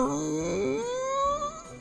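A woman cries in a drawn-out, wavering wail, her voice sliding upward in pitch and holding steady. It sounds fairly loud, with no speech.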